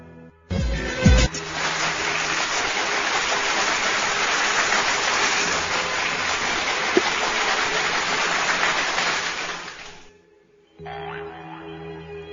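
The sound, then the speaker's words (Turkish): A big crowd bursts into dense, steady applause for the Hababamlar that holds at an even, loud level for about nine seconds before cutting off abruptly, with no voices. “Kocaman bir alkış alalım mı Hababamlara?”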